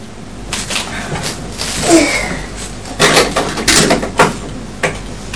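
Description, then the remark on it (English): Knife chopping on a board, a series of sharp, irregular thuds and clacks, mixed with light kitchen clatter and a faint background hum. “Well, are you chopping them?”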